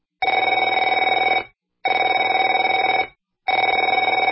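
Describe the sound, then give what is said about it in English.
A telephone rings three times in steady bursts, each a loud, buzzy electronic trill lasting over a second with short silent gaps between, and no voices present. “Afraid to answer it?”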